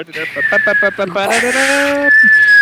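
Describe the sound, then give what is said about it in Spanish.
A loud, shrill human whistle holds one steady pitch from start to finish, running under a voice and a brief burst of noisy clatter midway. “si chiflo ahora sí les voy a romper el tímpano, no solo a ustedes, sino a los que nos están viendo.”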